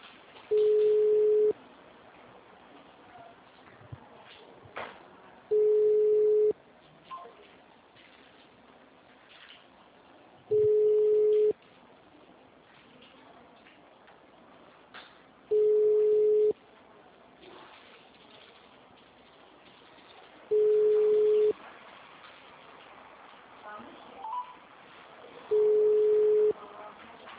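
telephone call tone

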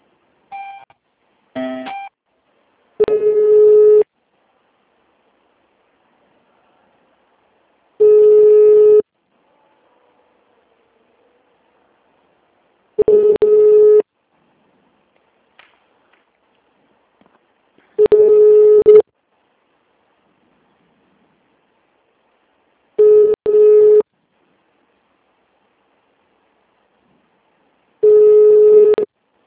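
telephone ringing tone

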